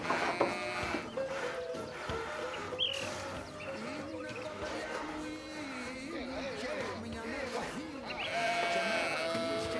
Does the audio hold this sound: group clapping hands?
no